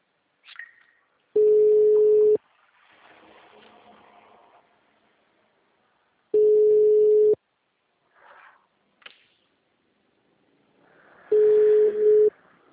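telephone busy signal

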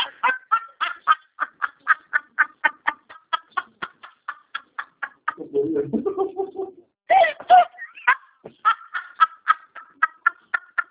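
chicken vocalizing

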